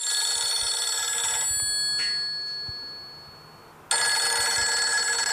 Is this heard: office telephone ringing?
yes